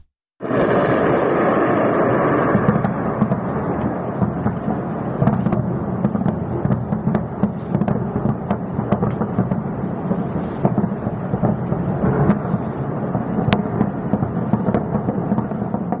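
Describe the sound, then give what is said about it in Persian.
Anti-aircraft fire in the sky over Tehran, heard mostly in the east of the city: a continuous loud, low rumble dense with repeated sharp cracks and booms, sustained for the whole stretch with no voices. “صدای پدافند بود که در آسمان تهران شنیده می شود.”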